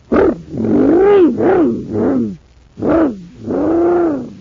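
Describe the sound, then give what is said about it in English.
A loud engine of a supercharged surface car on Mars, run on super fuel, roars in several rising and falling surging bursts with a brief pause midway. It has a throaty, voice-like quality and no speech. “Gosh, my surface car is supercharged now.”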